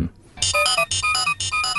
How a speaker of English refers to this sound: We've got a few little voices coming up there, haven't we? That one's a nice electronic voice.